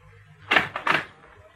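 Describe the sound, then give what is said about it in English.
A door being opened: a quick cluster of three rattling clunks from the latch and handle within about half a second, moderately loud, over a low steady hum with no voices. “The door's on the latch.”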